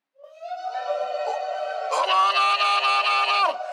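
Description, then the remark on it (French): During a Bible sermon, a single drawn-out vocal cry rises, then about halfway through a crowd joins in with loud, sustained shouts of joy that hold steady before cutting off. “Éclatons un peu ensemble des cris de joie.”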